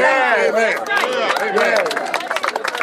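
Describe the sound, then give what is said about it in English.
A crowd applauds a woman who has just spoken, with a dense patter of claps, mixed with loud overlapping cheers and shouting voices, holding steady before thinning slightly toward the end. “There's a thing we say when applause doesn't really fit, even though I know we're applauding her, is shame.”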